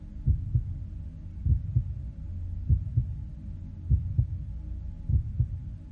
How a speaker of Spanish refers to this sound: Empieza a escuchar sus latidos. Poco a poco, escucha también tus latidos.